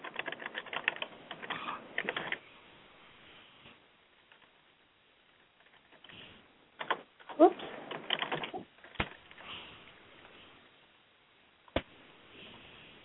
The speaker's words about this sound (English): Sorry, I have a hard time talking and typing at the same time.